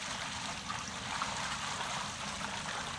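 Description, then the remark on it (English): Water from four large jars is poured onto an offering and wood on an altar, a steady, continuous rush, splashing and trickling without a break for a few seconds, moderately loud, with no voices. “Then he said to them, "Fill 4 large jars with water and pour it on the offering and on the wood.”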